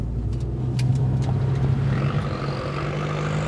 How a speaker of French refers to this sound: Non, même si on nous klaxonne, vous passez pas, vous avez un stop. Hein. Non, la voiture, elle arrive, vous la voyez, vous la regardez, vous accélérez quand même.